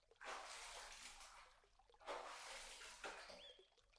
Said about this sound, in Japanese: それじゃあ、体もきれいに洗えたことだし、泡を全部洗い流そうか。